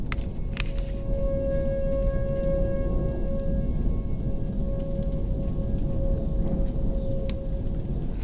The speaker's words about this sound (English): If you think you're hearing tornado sirens, you are correct. It's 1930 UTC, and it's, strangely enough, 1938 local time. The tornado sirens are going off.